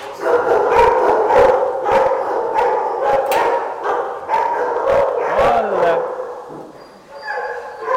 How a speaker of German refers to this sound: Beim Saubermachen muss man ja logischerweise überall rein. Aber nicht alle Hunde freuen sich über Besuch. Viele verbellen Menschen